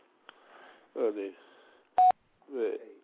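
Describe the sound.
A single short, loud telephone keypad tone beeps once on a phone voicemail system, between stretches of speech, with voices talking before and after it.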